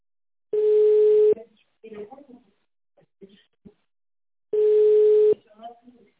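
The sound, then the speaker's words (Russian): A telephone line tone of a modem connection sounds twice, each steady, fairly loud beep lasting under a second, roughly four seconds apart, with brief quiet speech-like sounds in the gap. “Ну, а модем, там же подсоединение было тоже какое-то, что-то типа модема.”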